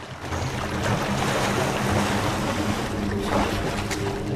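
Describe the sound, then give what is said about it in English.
Crocodiles scuffle and thrash in river water as they gather at a feast, a loud, steady churning of splashes and sloshing that runs without pause, with no voices. “A scuffle breaks out amongst the crocodiles.”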